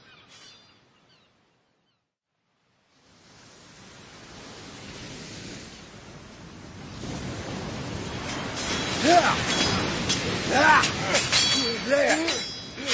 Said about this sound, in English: No, not that way, Captain. The tide's coming in. The tide!